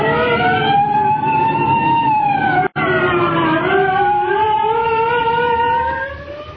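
A police siren of arriving state troopers wails loudly, its pitch slowly sliding up and down in long sweeps, with a momentary cutout partway through before it tapers slightly at the end. No one speaks.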